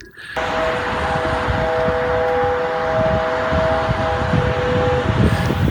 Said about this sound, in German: Aber es geht tatsächlich um den Kern der Sache, die Daimler-Hupe. Kennt ihr die? Die Daimler-Hupe, die macht so so in etwa.